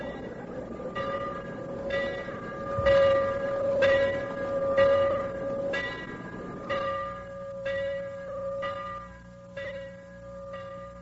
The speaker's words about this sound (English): Polk Street heard the victory bell for the last time on September 26th as it chanted the news of AHS winning over San Angelo 12-7.